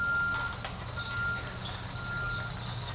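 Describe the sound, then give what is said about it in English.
A refrigerated truck loaded with meat backs up to a hospital kitchen's loading dock, its steady high-pitched reversing beeps sounding in long, evenly spaced tones over a constant low diesel engine rumble, with no voices. “On this day, a refrigerated truck loaded with meat is backing up to the kitchen's loading dock.”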